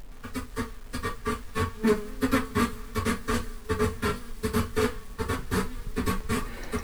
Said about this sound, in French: Et j'ai ensuite manipulé ça en croisant, faisant de la synthèse croisée avec des bruits d'abeilles, ça donnait ça.